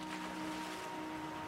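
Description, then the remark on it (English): A boat moves over ocean waves, a steady rush of water with a faint droning hum beneath it, continuous, with no voices. “They left Babel by foot, by cart, and by boat.”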